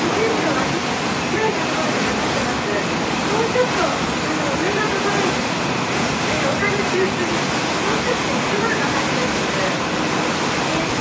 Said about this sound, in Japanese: 今からこの船に乗って、ガリラヤ湖を遊覧します。